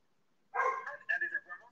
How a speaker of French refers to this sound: Non, ça vient de commencer chez moi. Ils ont dû entendre les aboiements de la porte blanche.